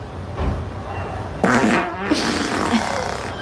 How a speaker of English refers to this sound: Hey, babe, guess the sound of my fart.